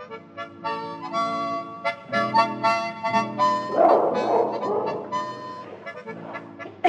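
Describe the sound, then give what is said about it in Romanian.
A dog being tormented barks and yelps in quick, repeated bursts, fairly loud, with high whining tones between the barks and no voices alongside. “nu mai chinui câinele ăla!”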